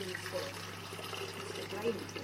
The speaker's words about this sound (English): Filter water has run through. Let's bung that in the kettle.